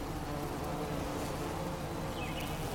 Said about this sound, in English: the smell is lovely and the sound of the bees is captivating. And I thought it appropriate to have the sound of nature, the sound of all different species of bees and bug working together on this field of gorgeous smelling flowers.